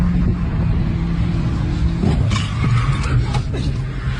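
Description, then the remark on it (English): A car engine drones steadily, then a sudden crunching impact cuts in partway through as the car hits another car, followed by a few more short scraping knocks over the continuing motor noise. “So they hit a car.”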